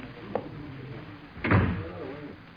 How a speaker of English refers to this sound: Close the door